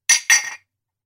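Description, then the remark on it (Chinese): Two quick, bright clinks of glasses touching in a toast, fairly loud, the second ringing a little longer before fading into silence. “好啊，来，干杯。”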